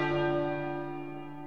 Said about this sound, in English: They pulled the ropes, and slowly the huge metal bell began to move. As its swing increased, Quasimodo vibrated with excitement, and the grand peal began.